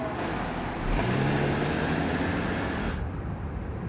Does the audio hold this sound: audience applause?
no